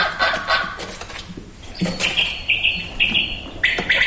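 A quail calls in short, sharp, repeated bursts, followed by a sustained high whistling note. The calls are clear, with no one talking.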